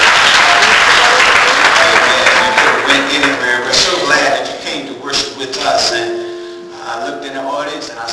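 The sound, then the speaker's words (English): An audience bursts into loud, steady applause for a visitor, a dense wash of clapping that gradually thins and fades while voices begin talking over it toward the end. “Give our visitor a hand.”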